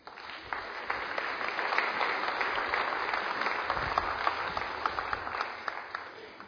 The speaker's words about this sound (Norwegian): Klapp henne fram!